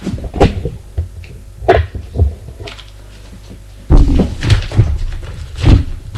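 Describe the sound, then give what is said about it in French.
Cupboard doors in an apartment being opened and searched, with irregular knocks, bumps and rattles, a brief quiet stretch in the middle, then a busier burst of handling over a low background hum. “Comme il reste la journée dans l'appartement, il cherche dans les placards.”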